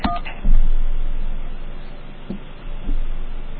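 A short burst of touch-tone keypad beeps as a name is spelled on a touch-tone phone in Quest's dial-by-name phone directory, followed by a few dull clicks and thumps spaced over a few seconds against a low background hum, with no talking.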